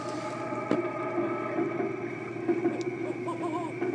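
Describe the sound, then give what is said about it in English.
A toy owl with weak batteries gives a low, droning electronic hoot, a steady buzzing tone held throughout, with a brief click early on and a faint warbling wobble near the end. “Okay, now we found a hoot owl.”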